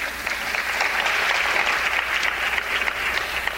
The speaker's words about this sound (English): Israel rearrested Tha'ir. I'll clap for him as well, yes.